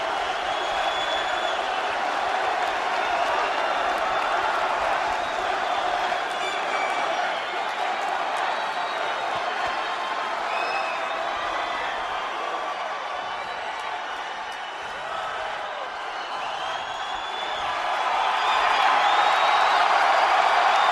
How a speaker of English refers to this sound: This crowd really did. They want to stop cheering long enough to let the man talk. He's got to feel everything that these fans are feeling for him right now.